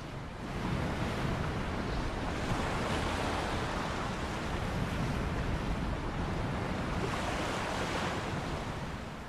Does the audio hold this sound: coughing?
no